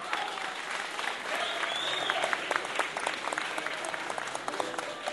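Steady applause from an audience welcoming introduced performers, dense rapid clapping holding at an even level for the whole stretch, with a few sharper individual claps standing out and faint voices mixed underneath.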